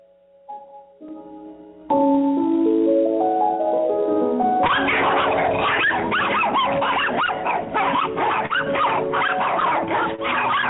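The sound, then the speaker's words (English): After a short run of rising, stepped tones, a pack of wild chihuahuas breaks into loud, overlapping high-pitched yapping and barking that continues without letup to the end. “We don't have any feral horses where I live, but we do have packs of wild chihuahuas running around, and the Las Cruces animal shelter is overcrowded.”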